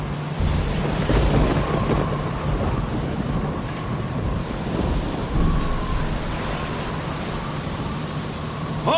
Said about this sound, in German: keiner von uns ahnte, welches Grauen seinen Anfang nehmen sollte, als sich in einer Nacht des Jahres 1966 der Fischtrawler Asahi Maru durch die von einem Taifun aufgewühlten Seen vor Japans Küste kämpfte.